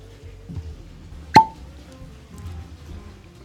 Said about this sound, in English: People over at Buffalo Trace know how to do a cork pop. They also know how to do that sound, too.